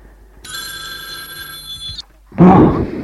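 household object, telephone bell ringing

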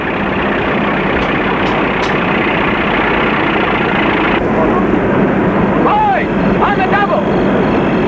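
vehicle, truck engine idling

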